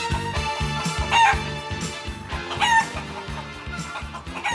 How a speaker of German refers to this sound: Er stopft kreischendes Federvieh in enge Kisten für den Transport zum Schlachter.